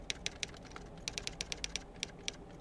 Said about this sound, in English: Ted touched the home key on his keyboard. Nothing happened. So he touched it again and waited.